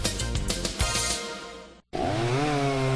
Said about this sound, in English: Want a chainsaw that starts easy, runs smooth, and provides years of dependable performance? You want an Echo chainsaw, built to tackle the toughest jobs.